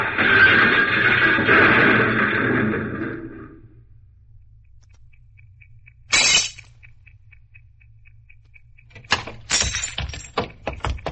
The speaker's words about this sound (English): Suddenly it swerves toward the curb, smashes into the rear of a parked car, and comes to a stop on the sidewalk.